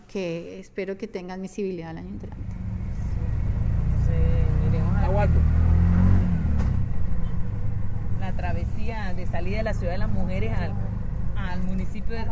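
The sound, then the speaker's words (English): A small motor taxi engine rumbles up and revs, its low drone swelling loud, then settling into a steady idle while several people talk over it. The taxi is a rickshaw-like motorbike carrying five passengers and the driver. “We're just getting into a motor taxi. It's a bit like a rickshaw and a motorbike, and there's five of us and the driver.”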